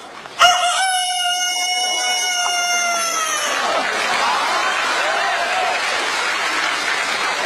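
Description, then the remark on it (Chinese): A man's voice imitates a big rooster's crow in one long, loud, sustained call lasting about three seconds, performed as part of a Chinese crosstalk (xiangsheng) act. An audience breaks into applause as the crow fades out. “简单的给大伙儿学一个，像不像三分样？”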